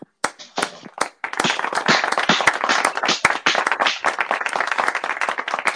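Several people clap together, starting with a few scattered sharp claps before building into a dense, steady round of applause that keeps going at a fairly loud level to the end.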